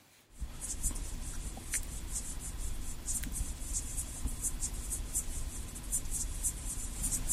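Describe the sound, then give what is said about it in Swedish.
A Micronecta poweri water boatman, a species found in Sweden, stridulates in rapid, high-pitched chirping bursts that repeat steadily, like a grasshopper, over a constant low rumble of water noise. No one speaks. “Vi har hittat ett ljud också av en art som finns i Sverige som heter Micronecta poweri, tror jag.”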